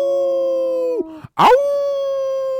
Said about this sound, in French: Dans la forêt sombre et profonde, des hurlements déchirent la nuit. Aouh !